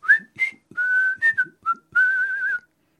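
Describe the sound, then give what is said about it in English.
Someone whistles a short, casual tune: a few quick chirpy notes followed by longer held ones, with a slight waver, and no talking. “Jasper Tudor left the Breton town of Vannes, apparently on his way to meet with the Duke Francis, presumably whistling casually.”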